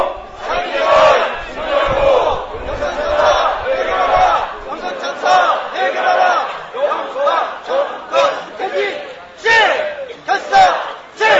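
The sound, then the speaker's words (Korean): A large crowd shouts protest slogans in unison, including a call to resolve the Yongsan disaster, loud rhythmic bursts of many voices rising and falling in repeated chanted phrases for the whole stretch. “힘차게 구호 두 개 외치고 하도록 하겠습니다.”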